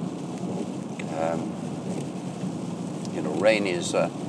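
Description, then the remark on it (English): Steady rain hisses evenly throughout, a dense wash of falling drops, with a couple of brief, faint murmurs rising over it near the middle and end. “You know, it is possible to reframe rain so that it is your friend.”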